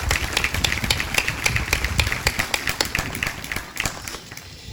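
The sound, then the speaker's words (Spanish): A crowd of neighbours claps together for several seconds in honour of a woman for passing on the faith, at a gathering with the image of the Virgin of the Rosary of San Nicolás; a dense patter of many hands that is fairly loud and steady before thinning slightly toward the end. “Así que también le damos un aplauso a Nélida por transmitir la fe principalmente para los vecinos.”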